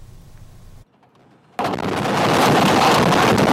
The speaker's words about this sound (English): The images show how debris starts pouring down from the sides, accompanied by the terrifying sounds of rocks crashing down.